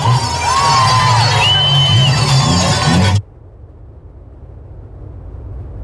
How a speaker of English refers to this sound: a number of videos have appeared on social media showing celebrations in Iran.